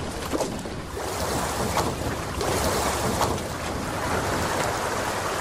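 A steady wash of water and engine-like rumble from a boat crossing open water, with soft lapping and splashes and a bit of wind, continuous and fairly close, no voices.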